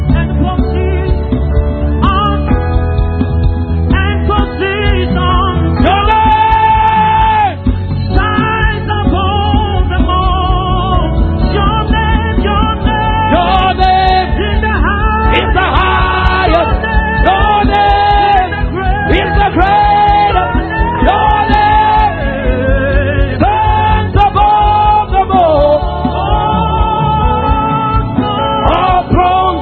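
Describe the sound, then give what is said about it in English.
An audience at a church service shouts and cries out to the Lord in triumph, loud and unbroken, with wavering, rising and falling yells layered over a dense, steady roar. “Shout unto the Lord with the voice of triumph.”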